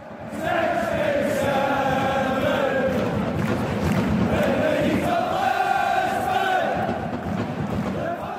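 A dense, continuous drone of some 80,000 plastic vuvuzela horns blares over a huge soccer stadium crowd, a steady buzzing wall of sound with wavering pitches that barely lets up for the whole stretch.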